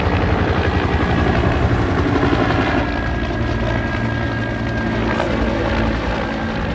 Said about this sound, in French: On a un Enoch, CH-47, des hélicoptères de transport de troupes.